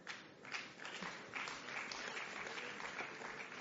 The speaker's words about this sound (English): In church, they say if you clap harder, they'll come faster. So if you clap harder, maybe they'll come faster.